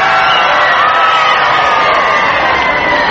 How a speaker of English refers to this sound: President Kennedy is flanked by Representative Jim Wright. You hear the crowd applauding. He's making his way across 8th Street.